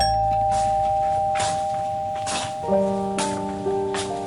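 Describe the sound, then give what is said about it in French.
A doorbell chimes with sustained ringing tones, shifting to a new pair of notes partway through, over bursts of hissing, rain-like noise, as journalists ring at a woman's door. No one speaks. “Des journalistes sonnent à sa porte.”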